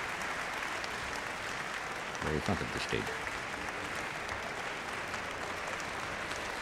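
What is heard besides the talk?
concert audience applause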